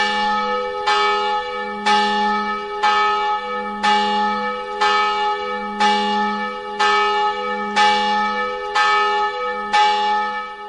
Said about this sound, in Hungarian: Plébános úr, hány harang szól a toronyban? Nagy harang, a középső és a kis harang, plusz a lélekharang, amikor valaki meghalt, tehát a csengetje, amelyet meghoznak. Ezek egyidősek a templommal, vagy ezek újabb szerzemények? A templommal egyidősek.